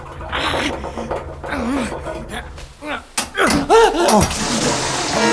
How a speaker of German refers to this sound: Das Rohr ist gebrochen! Justus, das Wasser flutet den Keller!